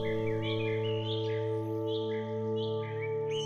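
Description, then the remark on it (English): Exotic birds sing in repeated bright, swooping chirps, scattered throughout and moderately loud, layered over a steady, sustained humming drone of background music. “There are enormous vine-covered trees, and you can hear exotic birds singing all around you.”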